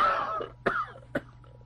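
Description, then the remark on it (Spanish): A run of harsh, chesty coughs from a person with a lingering heavy cold: a longer raspy one followed by two short sharp hacks, spaced about half a second apart, with no talking. “Oiga usted, esta maldita tos no se me quita con nada.”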